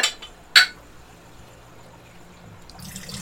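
Tiki drink concentrate pours into a cup in a shed, with a sharp clink at the start and a soft, steady trickle that fades, then a brief splashy rustle at the end.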